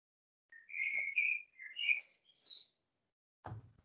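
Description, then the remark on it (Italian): A bird chirps in the background in a quick run of bright, high tweets and trills lasting a few seconds, clear, followed by a short low thump. “C'è qualcuno con l'uccello in sottofondo?”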